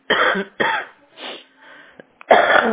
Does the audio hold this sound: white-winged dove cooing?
no